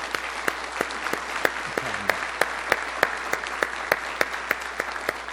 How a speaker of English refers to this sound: But I wanted to just have the entire room give Dr. Tremper a round of applause for really creating this.